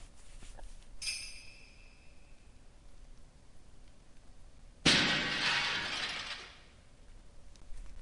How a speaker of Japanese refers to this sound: 今のはアリサの作り物の首のやつが落ちて割れたところですね。